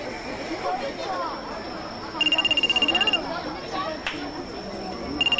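A mobile phone rings with a rapid, pulsing electronic tone in two bursts, a call from a mother, heard over a busy outdoor crowd murmur with people chattering while waiting for a fireworks show to begin.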